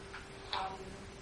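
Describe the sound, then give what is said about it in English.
A pendulum clock ticks softly, two light clicks about a beat apart, over a steady low hum and faint background noise, with no one speaking. The clock is heard again and again in a museum sound collage in Vienna, alongside street and subway station noise. “noise from the street, also from the subway station, and between again and again the sound of the pendulum clock.”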